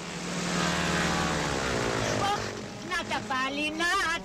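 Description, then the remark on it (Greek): A loud, steady droning of a propeller airplane engine fills the first half, then continues underneath as raised voices break in over it toward the end. “Γιατί το πέρασες, βρε τρελέ, το αεροπλάνο μου, τα σακό είναι να φύγει.”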